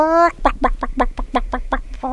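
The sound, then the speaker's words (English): A person imitates a chicken: a brief drawn-out squawk, then a quick, steady run of about eight or nine loud clucks. “Just call him a chicken.”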